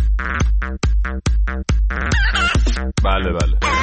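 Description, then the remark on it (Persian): Rapid, repeated clucking from a chicken, a steady run of short sharp calls with brief squawky, warbling notes mixed in, fairly loud over a low background hum. “بفرمایید، خواهش میکنم، بفرمایید، منتظری ما یه قدقدی چیزی.”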